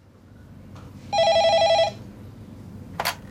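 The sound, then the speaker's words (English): A telephone at the HealthLink phone line rings once, a rapid trilling electronic burst lasting under a second, clear against a quiet hiss, followed by a short click shortly after. “Hello, HealthLink phone line. Can I help you?”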